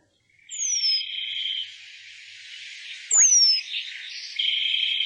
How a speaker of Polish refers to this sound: Wiosną ogród rozbrzmiewał śpiewem ptaków budujących gniazda dla swojej ptasiej rodziny.